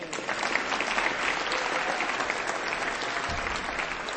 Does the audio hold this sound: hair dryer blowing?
no